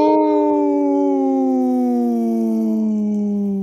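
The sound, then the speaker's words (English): Two people howl like wolves on the radio show Native Roots Radio Presents I'm Awake, a long sustained wail with a strong harmonic tone that slowly glides downward in pitch, loud and steady for nearly four seconds with no talking. “Howl! Right on. Hey, it sounded good with just two.”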